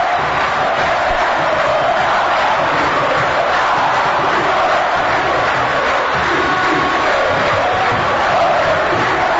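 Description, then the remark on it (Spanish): Olimpia supporters in a stadium chant and cheer after their team's fourth goal in a 4-0 win, a loud, continuous roar of massed voices rising and swelling together with a steady rhythmic pulse and no break for the whole stretch. “Olimpia gana el grito flanqueado en el este, escuche.”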